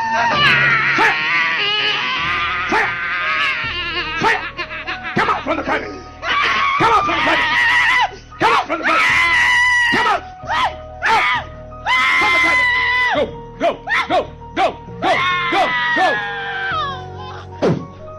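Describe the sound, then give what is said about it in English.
A woman screams in loud, high-pitched, strained bursts, one after another with brief gaps, sustained for the whole stretch, during an exorcism after a man sprays her with a spray. “And then he sprays in the area of her vagina, and she starts screaming because obviously the demon's burning in her vagina, oh, right?”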